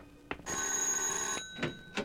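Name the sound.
doorbell ringing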